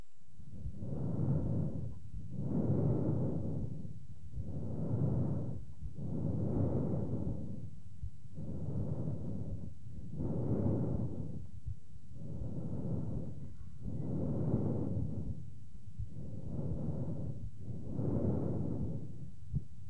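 Harsh, hollow laryngotracheal breath sounds recorded through a stethoscope over the thyroid cartilage of the larynx, about ten steady inhale-exhale cycles with brief pauses between, loud, with no voices.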